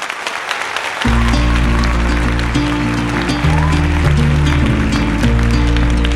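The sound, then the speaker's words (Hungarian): A theatre audience claps steadily at the end of the first act in a dense, crackling wash of applause. After the first second, low sustained musical tones enter and shift in pitch beneath the clapping. “A nézők tapsolnak,”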